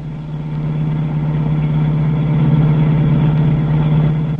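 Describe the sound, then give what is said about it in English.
A car engine hums steadily at a low pitch, running continuously and fairly loud throughout, heard from inside a car being driven through a city at about 5 o'clock in the morning, with a driver in front and passengers in the back; no voices. “As the scene opens, we find the doctor in the car of the strangers.”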